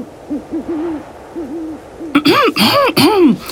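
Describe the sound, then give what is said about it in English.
An owl hoots several times in a soft, low series, then breaks into louder, harsher hooting calls, with no talking. “Owl! Hello, dear owl.”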